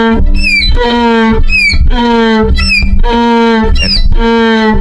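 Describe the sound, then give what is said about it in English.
A violin mimics a donkey's bray, alternating a squeaky high sliding note with a low sustained tone in a repeating hee-haw pattern about five times, loud and close with no talking. “Donkey sound on the violin.”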